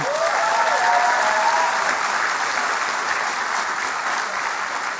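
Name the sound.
church audience applause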